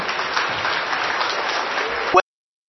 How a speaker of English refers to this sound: Thank you. Give these guys a round of applause.